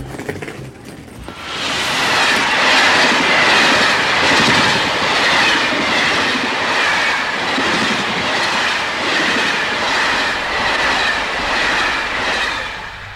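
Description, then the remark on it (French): A metro train rumbles along its rails, swelling in after a brief quiet start into a loud, steady roar with rhythmic clatter and faint metallic squeal, no voices. “Moi aussi, le métro. Oui, bloqué, un colis.”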